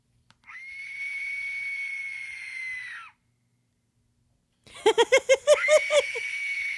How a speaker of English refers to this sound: So yeah, this is what an Aztec death whistle sounds like after this fucking stupid asshole talks about it for 20 fucking minutes.